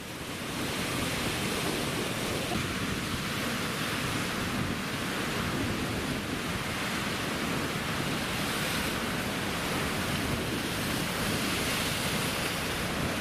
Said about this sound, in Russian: Над седой пучиной моря. Понимаешь, вот оно. Седая пучина. Вот оно.